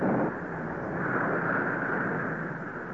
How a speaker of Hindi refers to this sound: आकाश में बादल छा गए थे, आंधी चल रही थी और हल्की हल्की वर्षा भी हो रही थी।